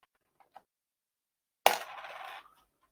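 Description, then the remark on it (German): A coin is flicked with a couple of faint clicks, then lands with a sharp metallic clatter that rattles and spins briefly before settling. No one speaks. “Oder ganz klassisch hier die Münze werfen?”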